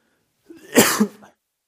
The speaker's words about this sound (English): Man, I feel like I'm going to start coughing here. I'm sorry.